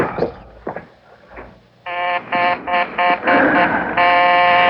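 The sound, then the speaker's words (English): After a few seconds of voices, a telephone starts ringing in loud, buzzy electronic bursts, several short pulses in quick succession followed by a longer continuous ring. “Keep ringing. Keep ringing. He'll never answer you.”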